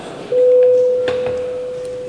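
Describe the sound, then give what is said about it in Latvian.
A parliament voting bell, rung to call a vote on the fifth proposal, submitted by deputy Stepaņenko, sounds as one steady, mid-pitched electric tone that starts abruptly and holds loudly and unbroken for nearly two seconds over faint background murmur. “Paldies, lūdzu zvanu, balsosim par 5.”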